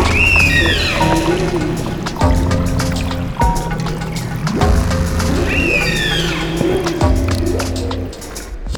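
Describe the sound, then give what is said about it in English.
Humpback whale song underwater: eerie rising and falling whoops and sweeping cries layered over deep, droning moans, repeating in phrases against a steady watery rush, with no voices. “Humpback whales vary their whale songs year after year.”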